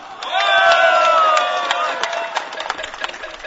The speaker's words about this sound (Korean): 여러분, 이 자리에 함께한 우리 모두를 위해서 한번 힘차게 박수를 보냅시다.